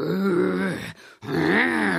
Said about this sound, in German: Hipp soll es ihm nachmachen. Doch was der kleine Löwe von sich gibt, klingt gar nicht mutig.